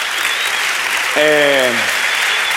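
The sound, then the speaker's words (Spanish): Steady, dense applause from a crowd claps throughout, with a short descending vocal cry rising above the clapping midway before fading back into the ovation. “Un aplauso. Una buena ovación a Nicolás Maduro delante del logo de Repsol, que son los que han recogido su testigo.”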